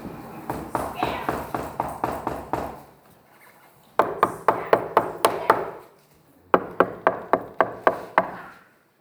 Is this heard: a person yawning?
no